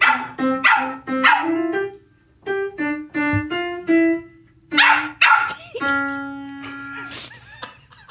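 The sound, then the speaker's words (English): A dog being taught to sing howls along as a person plays piano chords: a string of short, rising yowls between the notes, then one long held howl, fairly loud. “we have a clip of you teaching Windsor, your dog Windsor, how to sing here, and you're playing the piano”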